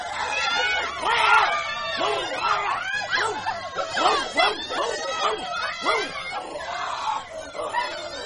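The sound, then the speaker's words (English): A dog in a school playground barks and yelps in quick, overlapping bursts with high whimpering whines between them, steady and fairly loud throughout, with voices mixed in underneath. “I know there's a dog in the playground.”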